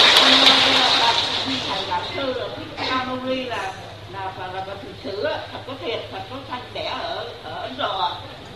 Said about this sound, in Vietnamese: Rồi xin mời bà cụ, một tràng pháo tay dành cho bà cụ mạnh dạn luôn.